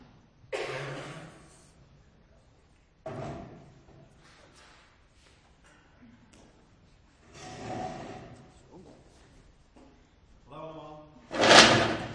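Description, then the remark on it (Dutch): Chairs being picked up and set down, with a few separate knocks and scrapes spread out over time, and a louder clatter near the end. “Goed, dan pak ik even de stoelen. Dan gaan we hier voorin zitten.”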